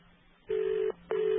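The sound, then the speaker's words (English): A British-style telephone ring tone: two short, steady buzzing tone bursts separated by a brief gap, heard clearly down a quiet phone line with faint background hiss and no talking. “The sound of a London Ring ringing, or actually St. Vincent Island on a digital.”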